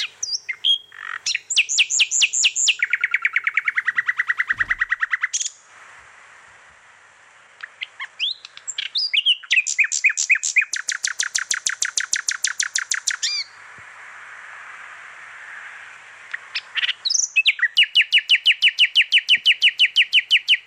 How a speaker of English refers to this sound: So this is one of the nightingales I recorded at High Ash Farm. It sends shivers up my spine. The musical Pavarotti.